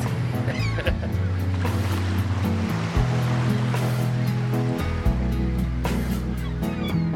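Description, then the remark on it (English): Ocean waves wash steadily onto Ocean Beach in San Francisco, a continuous loud roar of surf with swells rising and falling every couple of seconds. Low sustained tones hum underneath, and no one speaks. “The sand sculptor Kirk Rademacher on Ocean Beach in San Francisco.”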